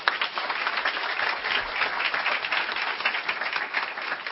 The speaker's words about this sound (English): our guest speaker, and have a round of applause.